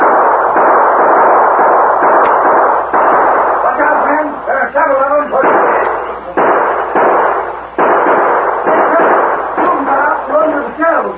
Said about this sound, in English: Then suddenly he heard shots. Oh, Sheriff, came from that cave.